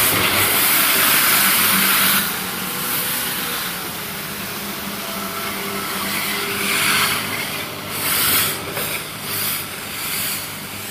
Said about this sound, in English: They're putting in the street sweeper. This will be an interesting one.